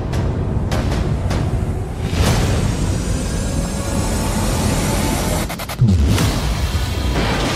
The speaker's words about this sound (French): Beaucoup d'explosions dans la bande-annonce.